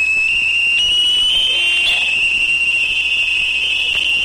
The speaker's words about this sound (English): A Navy destroyer, the USS Shoup, was using active sonar as part of an exercise in Harrow Strait, generating pulses of 140 decibels or more. That's as loud as standing near a fighter jet during takeoff.